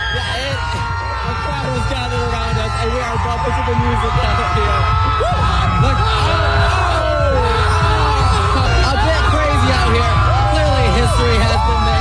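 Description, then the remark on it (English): A dense, loud crowd of baseball fans at an AL West championship game roars and screams continuously, many excited voices yelling and whooping over one another with a constant low rumble of stadium noise throughout. “You can't even hear him. You just hear people screaming.”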